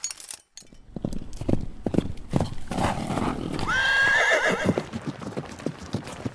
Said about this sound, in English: Ahab hitched his horse to the chariot and took off.